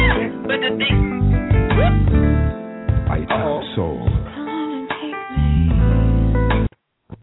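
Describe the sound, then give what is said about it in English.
A tinny, phone-quality cat-meow ringtone plays loudly and continuously, with layered musical meowing tones for about six seconds before stopping abruptly. “Your kitty cat got ringtone.”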